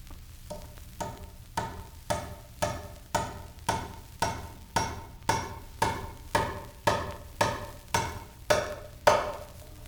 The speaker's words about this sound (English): Now let's take that piece of wood and put it to some practical use, like driving nails into it. Notice the ring of the hammer against the head of the nail as it sinks into the wood.